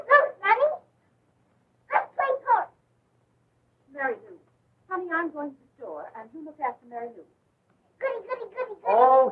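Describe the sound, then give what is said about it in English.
A little dog named Mutt gives short bursts of barks and whiny yips in quick clusters of two or three, with a higher whimpering stretch in the middle, moderately loud, as it enters a house. “Sonny and the dog enter the house.”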